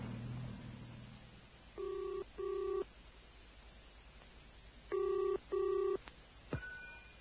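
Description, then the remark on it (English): A telephone call from a phone box going through: two pairs of short electronic ringing tones separated by a pause, then a sharp click as the line connects, with a low background hum. “Look, there's a phone box. I'll call the police anonymously and tell them what we saw.”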